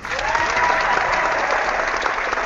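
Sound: crowd applauding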